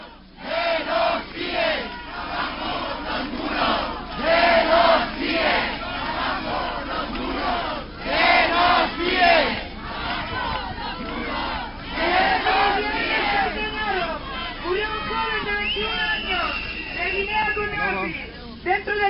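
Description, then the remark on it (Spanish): A protest crowd chants together at a rally at the gate of the CIE, the foreigners' detention centre, of Zona Franca in Barcelona on a Sunday, over the death of a detainee. Loud rhythmic shouted slogans rise and fall in repeated bursts, with a continuous wash of voices underneath throughout. “ahora lo que vamos a escuchar va a ser, digamos, la concentración que hubo en la puerta del CIE de Zona Franca el domingo pasado.”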